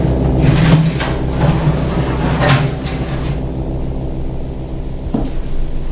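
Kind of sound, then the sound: household object, door opening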